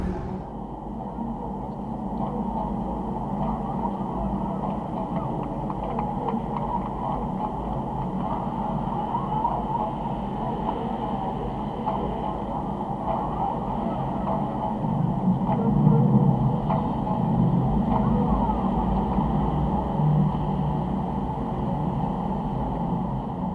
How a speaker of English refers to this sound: It is an effective transformer for traffic noise, the so-called bad noise in the streets by cars and trucks.